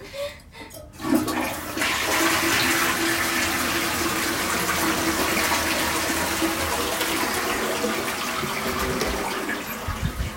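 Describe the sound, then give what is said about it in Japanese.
A toilet flushes with a sudden loud rush of water after a brief click, then a steady hissing gush that refills the tank for several seconds, ending with a few gurgles. “よいしょ、流してきます。”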